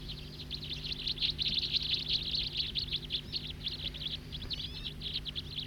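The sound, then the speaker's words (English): A flock of about 15 small birds, including siskins, perched in trees around a ranger station parking lot, calling together in a steady stream of high, rapid chirps and twitters over a low background hum, with no one speaking. “Calling now from some of the others.”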